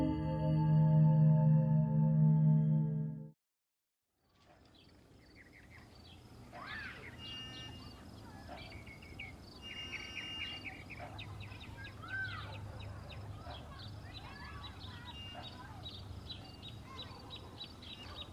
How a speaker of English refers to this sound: It was a bright autumn day, and the birds were in full voice.